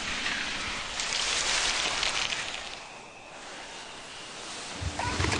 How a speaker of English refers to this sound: There's clicking, there's the steam sound, the whoosh, the breathing of the steam, and the spray starch. And then when the starch lands on the fabric, that's another nice sound. It's like rain.